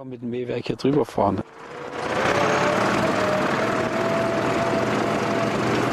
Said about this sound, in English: A cloud of dust streams from Rosbach's tractor as it ploughs his cornfields.